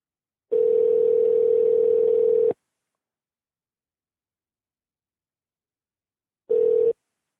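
A phone's ringback tone while a call waits to be answered: one steady two-second electronic burst, a long silent pause, then the start of another. Clear, with no voices.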